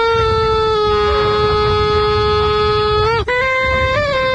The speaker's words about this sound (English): Nothing beats the air horn, though. That was terrific.